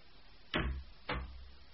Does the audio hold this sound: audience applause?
no